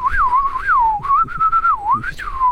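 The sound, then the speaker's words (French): A person whistles an imitation of blackbird song: a continuous, wavering melody of rising and falling swoops around a mid-high pitch, fairly loud and alone, lasting a couple of seconds. “À moi, faire le chant du merle, ça va être difficile.”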